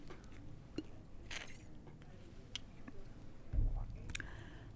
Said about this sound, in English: I have had a bit of flu coming back, so that's why I have to every now and again take a sip of water. But I am fine, so sorry if you can hear that.